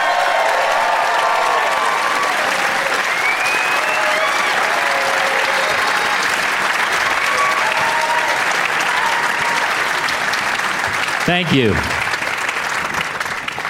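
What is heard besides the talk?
audience applause and cheering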